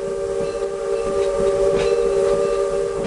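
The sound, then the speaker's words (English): An old steam locomotive at the California State Railroad Museum rumbles along loudly and steadily on a 45-minute ride along the banks of the Sacramento River, while a long, droning whistle tone sounds continuously over the noise of the cars. No one speaks. “Every weekend, train lovers climb aboard an old steam locomotive at the California State Railroad Museum.”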